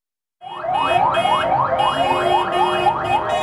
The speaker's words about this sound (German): Bis in die frühen Morgenstunden waren Autokonvois mit Palästina-Fahnen, Hupen und auch mit Zweiklanghorn durch Städte im Westjordanland gefahren, um die Rede ihres Präsidenten Mahmoud Abbas vor der UNO-Generalversammlung zu feiern.